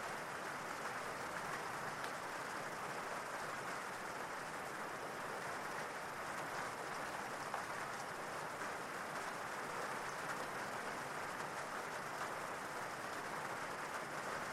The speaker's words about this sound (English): And as you continue to sit there, listening to the rain, relaxing more and more,